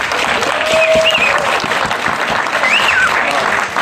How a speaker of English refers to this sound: Cue the applause. Why is that necessary?